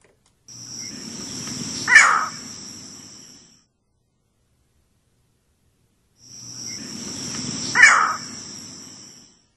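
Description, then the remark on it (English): A green heron gives two harsh, abrupt calls about six seconds apart, each a loud single squawk over a steady background hum of insects. “one of the birds that you suggested that we might want to listen to some audio of is a green heron.”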